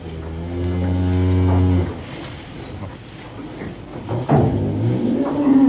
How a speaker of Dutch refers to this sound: Laat je koe loeien. Dat is toch verkeerde geluid, man.